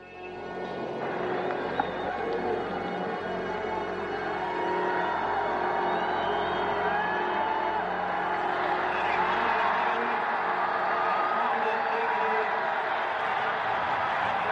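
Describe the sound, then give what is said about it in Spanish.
A roomful of people in mission control stand and burst into sustained cheering and applause for the crew who have just landed on the Moon, a dense, steady roar of clapping with shouts and whoops rising above it, growing slightly fuller partway through. “Esos son las ovaciones y aplausos.”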